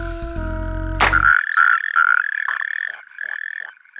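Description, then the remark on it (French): A European tree frog (green tree frog) calls loudly in a rapid series of harsh, rattling croaks that pulse steadily for several seconds, following a brief tonal sound at the start. “La rainette verte.”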